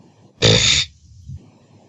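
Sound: loud burp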